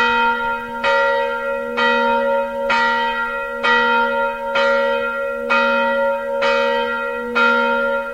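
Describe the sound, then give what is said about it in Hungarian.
A church bell rings out at noon in a slow, steady rhythm, each loud stroke arriving about once a second and leaving a rich, humming tone that sustains between strikes. No voices are heard. “Az utóbbi időben nagyon sok olyan településen járunk, ahol nem harangoznak délben, holott villamosított a harang, pedig tudjuk, hogy miért szólnak a harangok, minek az emlékére.”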